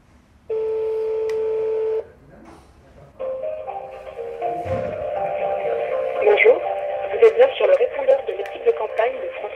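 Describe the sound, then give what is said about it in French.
A steady telephone dialing tone holds for about a second and a half, then after a brief pause gives way to a busy, crackly phone-line sound with muffled voices. “Et tu veux pas appeler le modem quand même? Allez, on essaye si tu l'as.”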